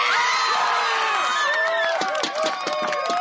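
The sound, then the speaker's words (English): A loud crowd of fans in packed stands cheers and shouts at a youth roller hockey playoff game between 6-to-8-year-old teams, the Scorpions and the Rattlesnakes, at the Laguna Hills Roller Hockey Complex in Southern California; a dense wall of overlapping voices with high excited whoops and yells rising steadily throughout. “The stands are packed and the fans are loud.”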